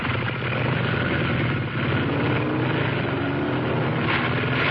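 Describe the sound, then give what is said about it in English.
Loud, steady engine roar of two motorcycles racing down the length of a parking garage, a dense rumbling drone that holds for the whole few seconds with no pauses and no voices. “The headlights separated as two motorcycles roared down the length of the garage.”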